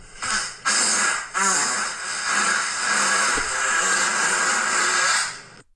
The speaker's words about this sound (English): Like the asshole's that big. Like, that's a lot of sound from one bump. It sounds like it's angry at something. Yeah. It's like a fart yell.